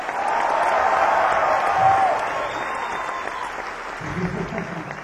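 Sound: sarcastic clapping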